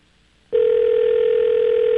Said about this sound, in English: I had a feeling they weren't going to answer. We'll give them three more rings. Three more rings? Mm-hmm. All right, what's the maximum? We're going to give them 12 rings each station that we call.